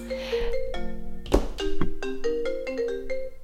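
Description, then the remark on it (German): A phone ringtone plays a melodic sequence of bright electronic tones, stepping up and down in a steady pattern, fairly loud with no one talking. “Hat gleich noch mein Telefon geklingelt.”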